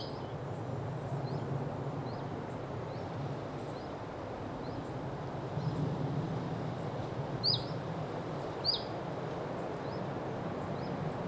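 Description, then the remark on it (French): A common chiffchaff gives its alarm call, short high upslurred notes repeated about once a second, mostly faint with two louder ones, over a steady rustling background. “Et ce puyau véloce là qui alarme alors que je suis certainement sur son territoire.”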